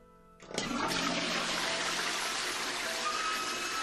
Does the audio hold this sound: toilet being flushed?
yes